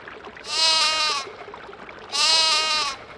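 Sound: lamb bleating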